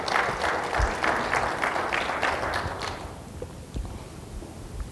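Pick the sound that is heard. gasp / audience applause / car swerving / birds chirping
audience applause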